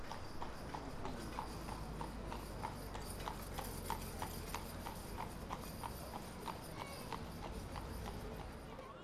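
Steady, regular clip-clop of horse hooves on a hard road, as a jarvey's horse pulls a wagon along at a walking pace at Kenmare Place in Killarney, with a continuous low rumble of wheels underneath.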